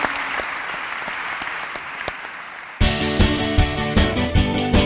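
An audience claps steadily in a dense, crackling wash of applause for a few seconds, then a loud, rhythmic music track abruptly takes over.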